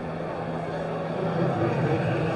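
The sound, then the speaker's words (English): A motorcycle engine revs as it rumbles past, a steady, fairly loud drone that swells slightly partway through before holding level. “No, that was just a motorcycle revving on its way past.”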